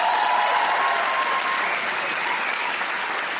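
An audience claps in a dense, sustained round of applause that stays loud and steady throughout, with a faint whistle-like tone early on before the clapping continues evenly.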